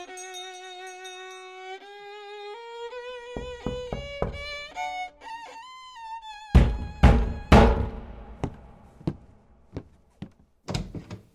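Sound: knocking on a door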